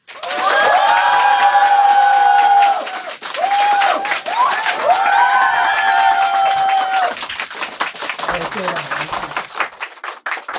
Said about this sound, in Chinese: 然后我们这样，我们先掌声欢迎黄西老师。